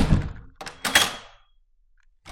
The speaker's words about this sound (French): Sèchement, Madame André est poussée à l'intérieur. La porte se referme sur elle.